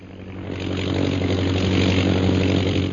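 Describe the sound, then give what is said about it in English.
A British propeller plane's engine drones steadily and loudly directly overhead, a continuous low throbbing hum that swells slightly and holds, with no voices present. “The British plane. They are directly overhead, Master.”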